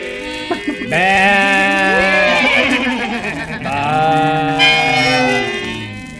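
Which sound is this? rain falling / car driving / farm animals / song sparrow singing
farm animals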